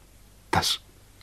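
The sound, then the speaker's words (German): A man clears his throat once, a short, sharp vocal burst, with quiet before and after. “Ich räusperte mich.”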